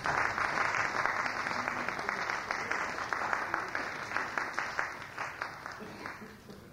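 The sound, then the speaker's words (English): An audience at a session applauds Dr. Davis, many hands clapping in a dense, steady burst that carries on for several seconds, then gradually thins out toward the end. “Let us give Dr. Davis some hand.”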